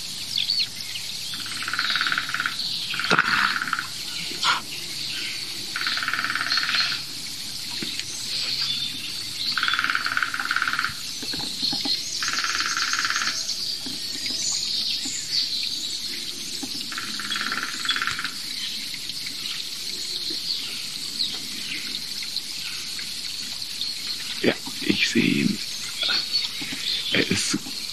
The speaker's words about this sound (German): Oh, viele tote Bäume. Aber hört ihr dieses Knarren? Das ist eine hohe Frequenz.